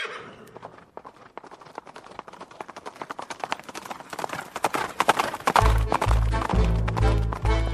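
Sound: horse hooves clip-clopping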